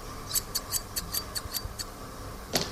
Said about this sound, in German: Eine Schere.